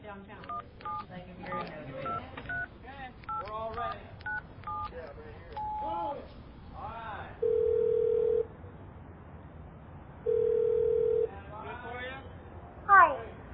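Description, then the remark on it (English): A quick run of about a dozen phone keypad beeps, then two long, steady ringing tones separated by a pause, with a voice murmuring faintly underneath. “hand me my phone.”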